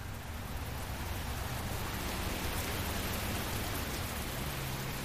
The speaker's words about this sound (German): Es handelte sich um jene Sorte von Regen, der viel zu feucht ist, um einen Regen, der in großen Tropfen herabfällt und platscht, um einen Regen, der einem senkrechten Meer mit Schlitzen darin gleicht.